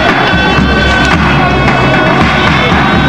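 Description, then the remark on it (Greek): A large crowd applauds and shouts words of praise together in a loud, dense, continuous roar, with scattered claps and indistinct voices blending throughout. “Ο λαός χειροκροτεί και φωνάζει, είσαι δυνατός, σε σένα αξίζει το μπάσκετ.”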